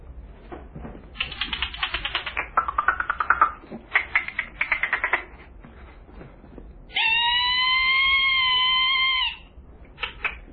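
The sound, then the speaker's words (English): Rapid bursts of clicking come in uneven trains, then a steady, harmonic whale call holds for about two seconds before a last short flurry of clicks, from a whale moving around; no voices. “Must be a whale that's moving around.”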